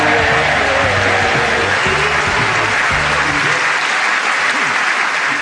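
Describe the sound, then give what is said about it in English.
Loud, sustained applause from an audience fills the whole stretch, a dense steady patter of many hands clapping at once during and after a sung performance, with faint low murmurs beneath it early on. “Oh, can I say I think you ruined that by clapping?”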